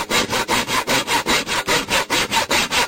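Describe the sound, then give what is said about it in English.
Steady back-and-forth sawing through wood, about a dozen rasping strokes in an even, brisk rhythm, loud, with no talking. “I think that's sawing.”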